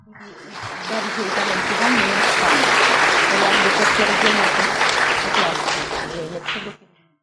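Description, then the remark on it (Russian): Sustained audience applause, a dense wash of many hands clapping that swells in quickly, holds steady and loud for several seconds, then cuts off abruptly near the end, with some voices mixed in. “Как заключение этих аплодисментов записка: никто не сможет снять фильм о Катыни более талантливо и проникновенно, чем вы.”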